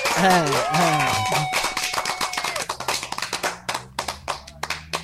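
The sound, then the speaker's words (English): Loud, rapid hand clapping in a steady stream of sharp smacks, speeding into a quick, even rhythm toward the end, with whooping voices over the first second or so, as a guest is introduced on a show. “And I'm gonna follow that with the clap.”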